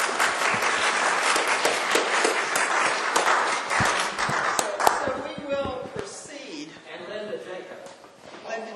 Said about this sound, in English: I think they deserve a real round of applause.